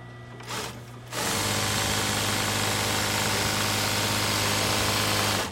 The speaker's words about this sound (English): The sewing room at New England Flag and Banner is humming with activity. It's been that way for a while now.